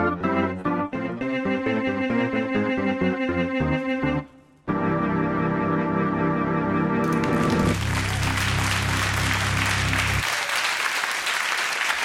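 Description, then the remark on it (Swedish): Cheerful organ music from the one-man band plays and ends, then an audience at Vasaparken breaks into loud, sustained applause for him, a dense wash of clapping that fills the last few seconds. “Applåder till ….”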